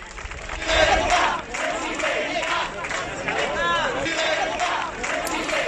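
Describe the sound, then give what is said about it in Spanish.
A crowd at a PP party meeting in Castilla-La Mancha, Spain, chants "presidenta" to Isabel Díaz Ayuso in loud, rhythmic unison, voices rising and falling with each repetition over a dense background of shouting and murmuring. “Allí hubo quien recibió el grito de presidenta, presidenta, a Isabel Díaz Ayuso.”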